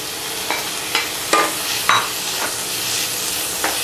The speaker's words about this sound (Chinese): 最后一步，把这个放进锅里面炒熟即可了。